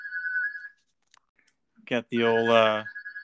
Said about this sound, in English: Got the old landline. Got the old wall phone. Is that the landline ringing in? That thing got a 20-foot cord, so you got pick beans while you answer it.